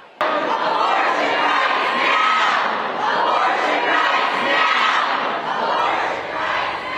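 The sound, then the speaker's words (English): Protesters inside the legislative chamber of the legislative building in Raleigh shout and chant loudly and continuously against proposed restrictions as lawmakers break for dinner, voices overlapping in a dense, sustained roar for several seconds. “In the last 30 minutes, lawmakers broke for dinner, and as they did, protesters in the chamber began shouting.”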